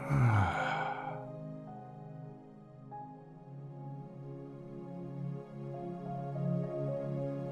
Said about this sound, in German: Wir atmen zweimal normal. Das heißt, einatmen durch die Nase. Und ausatmen. Einatmen durch die Nase. Und aus.